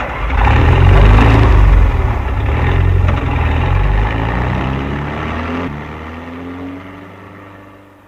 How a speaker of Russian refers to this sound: А я машину в гараж погоню.